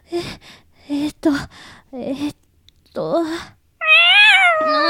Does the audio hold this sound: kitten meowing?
yes